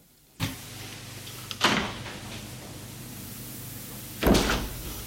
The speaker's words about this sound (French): Furieux, Constant ouvre la porte.